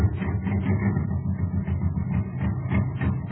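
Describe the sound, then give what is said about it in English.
A jet cycle engine running on ordinary fuel putt-putts steadily on its own, a low, chugging idle with a rapid, even pulse and a slight rattle, holding a moderate level without revving up. “Why, it's just a putt-putt, that's all it is, because all it has to go on is ordinary fuel.”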